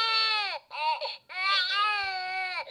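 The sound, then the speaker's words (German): A lifelike simulation baby doll, used in school project weeks and fitted with a microchip, cries like a newborn in three wailing bursts, each a strained, harmonic-rich howl that falls at the end, loud with brief gasping pauses between. “Die sieht nicht nur lebensecht aus, sie hört sich vor allem auch so an.”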